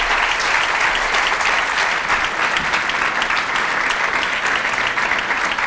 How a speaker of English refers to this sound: I have to tell you, stop clapping, I only have 30 minutes. But thank you so much.